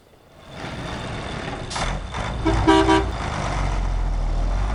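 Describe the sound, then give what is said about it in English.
Heavy fuel trucks from a local gas plant, blocked by protesters in the Sencata district outside La Paz, rumble and idle, with a few short horn toots and reversing beeps in the middle before the low engine drone carries on steadily. “outside of La Paz in the district of Sencata, a group of protesters attempted to block a number of trucks transporting fuel from the local gas plant to the capital city.”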